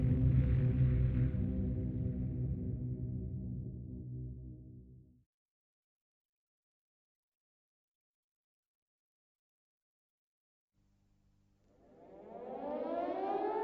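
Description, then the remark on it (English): A loud civil-defense air raid siren at Peenemünde, late in the evening of 17 August 1943, wails with a steady, droning tone, fades out into several seconds of silence, then rises again in a climbing, sweeping wail. No one speaks. “Late in the evening, on the 17th of August 1943, the air raid sirens at Peenemünde began to sound.”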